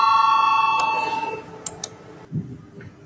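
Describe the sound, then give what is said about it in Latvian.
A voting bell in the Latvian Saeima, rung to call a vote on a proposal, sounds as one bright, sustained electronic tone with layered harmonics, fading out over about a second and a half, followed by a few soft clicks and a low background murmur. “Lūdzu zvanu, balsosim par 5. deputāta Ģirdjana iesniegto priekšlikumu.”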